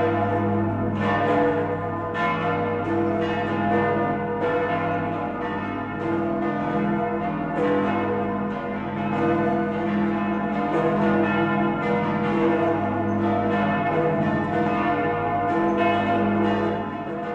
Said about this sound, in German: Dass nun so herrliche Glocken wie die des 1089 gegründeten Stiftes Melk an der Donau die Weihnacht einläuten können. Sie gelten als das großartigste barocke Glockenensemble der Welt